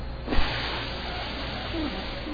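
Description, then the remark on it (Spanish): A voice imitates air escaping from a deflating balloon: a steady, breathy hiss lasting a couple of seconds at moderate loudness, with no words. “¿Has visto un globo cuando se desinfla?”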